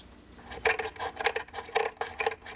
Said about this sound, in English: What we have here is a small wooden plane with a curved bottom on it to scoop out the inside of the top. This is the top of the violin.